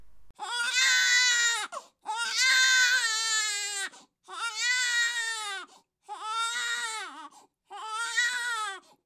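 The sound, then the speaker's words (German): A baby cries loudly in five drawn-out wails, each separated by a short gasp for breath, with no talking or other sound around it. “Was ist das denn? Ein Kind? Ein Baby?”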